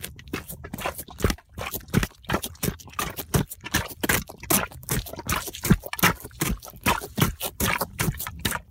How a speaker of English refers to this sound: That is the sound of me walking in rubber boots after I just got a booter.